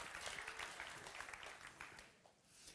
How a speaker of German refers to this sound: Oh, Applaus dafür, Halleluja, Halleluja.